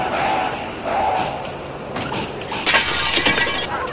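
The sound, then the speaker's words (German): A truck crash hitting a pedestrian, who ends up stuck in the truck's front grille: a loud, noisy burst of impacts and shattering glass, with sharp hits around the middle and a harsh, crunching clatter toward the end, no talking. “Hey, Werner klebt voll im Kühlergrill vom LKW.”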